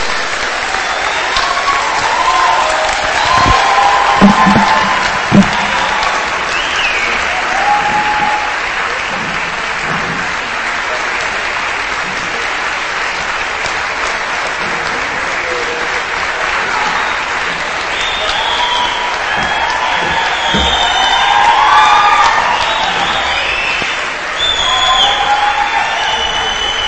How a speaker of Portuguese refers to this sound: Levanta outra, junta e dá uma salva de palmas linda para o Senhor.